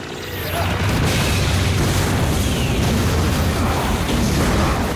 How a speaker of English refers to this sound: Amy and the drone explode like a massive firework in a spectacle of sparks and light. Gallagher is thrown off his feet.